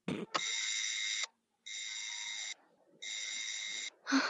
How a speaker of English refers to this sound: And Bart is about to ring the bell, and Homer comes up with this wonderful turn of phrase.